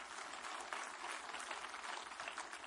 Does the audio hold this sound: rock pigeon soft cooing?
no